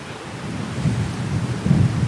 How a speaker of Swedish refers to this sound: Och vilken vind hörni!